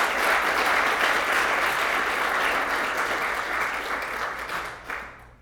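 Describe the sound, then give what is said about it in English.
A church crowd claps in sustained, dense applause, a steady wash of overlapping hand claps that holds loud for several seconds before tapering off and thinning out at the end. “Can we give them one last round of applause?”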